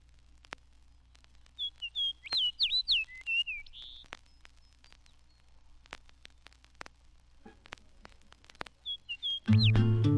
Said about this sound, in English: The fox sparrow prefers the northern spruce forest for nesting. Here a bird sings near Hudson Bay and a second one in Canadian Labrador.